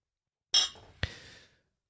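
glasses clinking

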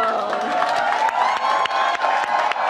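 crowd cheering

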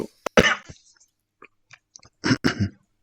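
coughing

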